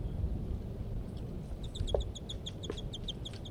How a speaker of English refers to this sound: And these are those two birds, and while the male calls from the nearby treetops.